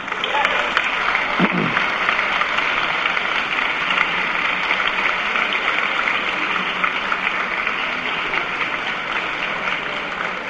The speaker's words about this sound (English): Now you clap for that, but I wonder if you really understand what that means.